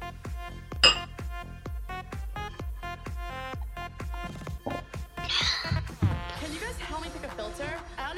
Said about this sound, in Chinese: 我陪你喝一杯，你自己喝三杯。嗯，好嘛，讨厌，来干杯！